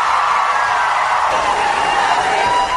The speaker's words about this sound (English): The applause line in that one was actually 20 or 30 seconds long. I cut it down a bit, but he said it.